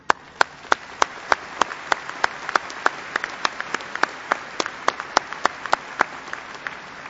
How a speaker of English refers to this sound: They have helped you get to this point, and they deserve a round of applause for all their efforts.